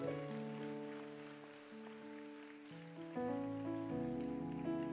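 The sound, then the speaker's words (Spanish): An audience claps for a pastor's birthday, steadily throughout, a dense crackle of many hands, mixed with sustained keyboard chords that shift and grow louder partway through. “Le damos otro aplauso al Pastor Daniel Domínguez, que hoy está de cumpleaños.”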